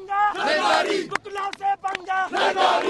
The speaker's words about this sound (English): Part chant, part warning to the president, they shouted, "Do not pick a fight with the lawyers."